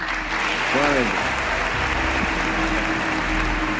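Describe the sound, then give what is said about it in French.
A large crowd applauds steadily, a dense wash of clapping, with a brief tonal voice-like sound rising near the start beneath the ovation, as the American president has the audience applaud the Emir of Kuwait. “Ce jour-là, le président américain fait applaudir l'émir du Koweït.”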